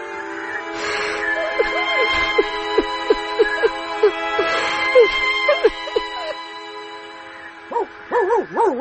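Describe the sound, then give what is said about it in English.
A dog named Alidoro, in a Pinocchio story, whines in a run of short, pitched cries, then breaks into wavering, rising-and-falling howls at the end, moderately loud, with a faint background hiss. “And you go away too, stupid dog.”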